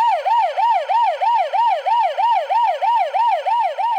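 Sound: ambulance siren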